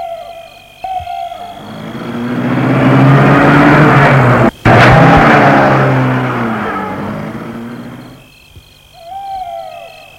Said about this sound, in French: Et François sort de voiture. Et la voiture démarre.